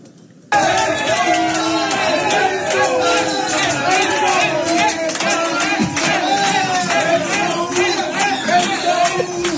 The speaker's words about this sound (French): Il faut raconter que les Marseillais applaudissent le but allemand. Hein. Le but de Dortmund. Voilà. Les Marseillais, quand les Allemands marquent, ils sont vent debout.